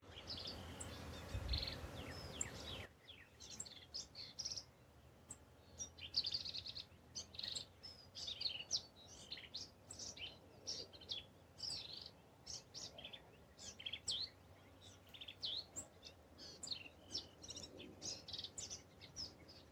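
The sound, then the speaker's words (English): A male black-capped vireo's twittering song on a trail past a bird blind at South Llano River State Park: a steady stream of bright, rapid chirps and warbled phrases repeating for nearly twenty seconds, clear over quiet outdoor background. “Purple martins greeted me at the parking area on the way to the bird blind, where I paused and then traveled down the trail, where I was treated to the marvelous twittering of this male black-capped vireo.”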